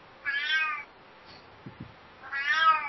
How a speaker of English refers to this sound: I hear the cat objecting to what's going on.